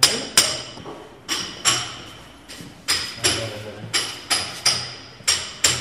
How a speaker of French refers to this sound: Je retrouve le père Norbert sur le chantier. Dernier coup de marteau.